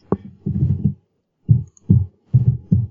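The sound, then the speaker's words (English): Muffled computer keyboard typing and clicking, heard as dull thumps in short irregular bursts with brief pauses between them, as someone types into Google; no one speaks. “I hope you can't hear me just, typing into Google right now.”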